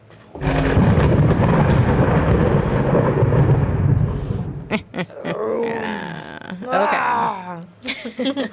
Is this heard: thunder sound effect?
yes